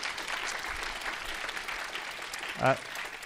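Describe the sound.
Steady audience applause fills the room, a dense wash of many hands clapping at moderate volume, with a brief louder burst near the end that sounds like a single voice or cheer.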